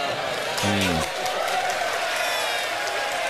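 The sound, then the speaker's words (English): The Footy Show studio audience reacts to Dave Hughes having a crack at Sam Newman with a steady, noisy wash of crowd sound, a brief collective vocal outburst rising near the start before settling back into murmuring that carries on throughout. “Well, crowd reaction says it all, doesn't it?”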